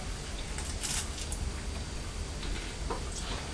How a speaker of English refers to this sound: No, it's all right, we've put some more toast in the toaster. That's the noise you can hear.